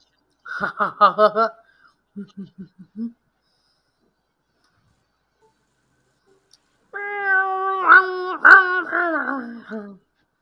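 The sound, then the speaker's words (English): A person's voice imitates a cat meowing: a quick run of chirpy mews and a few short squeaks, a pause of silence, then one long, wavering, drawn-out meow, fairly loud. “I sound like a cat, don't I?”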